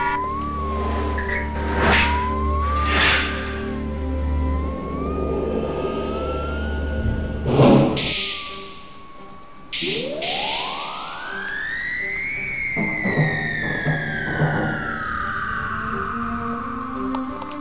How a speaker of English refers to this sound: You are listening to the noise of rain beating against a large metal drum. Go closer.